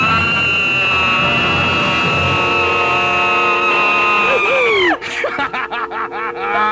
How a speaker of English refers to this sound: Y95, scream!